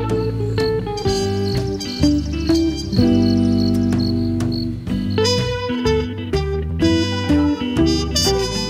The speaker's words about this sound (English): Little grasshopper, little grasshopper, noisy as can be. I hear you, can you hear me?